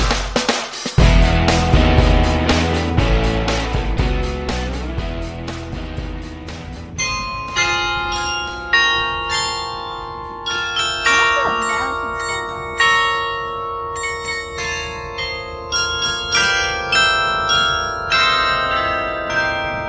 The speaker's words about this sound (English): Can you name that tune? Those are the bells of the Echo Across the Harbor, a public art project at Kaohsiung's Peng Lai Pier.